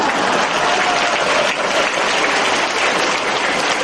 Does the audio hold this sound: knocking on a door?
no